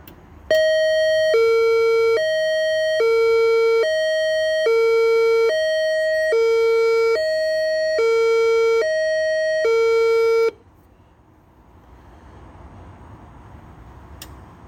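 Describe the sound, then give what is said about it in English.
A UVA emergency notification system test siren blares a loud two-tone hi-lo pattern, alternating steadily for about ten seconds before cutting off abruptly, leaving faint outdoor background noise. “This is a test of the UVA emergency notification system. This is only a test.”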